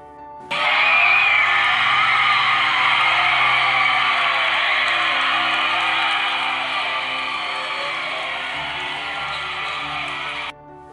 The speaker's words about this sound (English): After completing our routine, you can hear in the following clip the screams of the crowd, and we knew right then and there we had won.